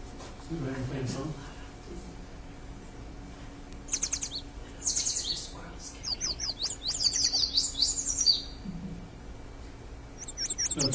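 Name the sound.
yellow warbler song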